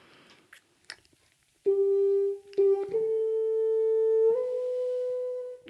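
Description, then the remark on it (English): A few soft clicks and taps, then a violin played with a big black practice mute, one not meant for orchestral use: several long, sustained notes with a thin, muffled tone, each stepping slightly higher, played alone. “I must tell you, I'm putting in a big black practice mute, which is actually not meant for orchestral use, but it turns it into this.”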